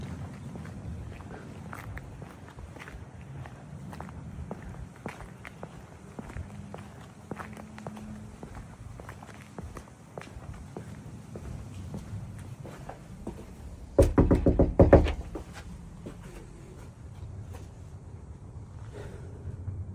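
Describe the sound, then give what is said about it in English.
Steady footsteps crunch along outdoors in daylight with light wind in the background as someone walks to the door of a house where SWAT activity happened, followed by a short burst of loud knocking on the door near the end. “I'm going to go to the door and see if anybody is home at the house.”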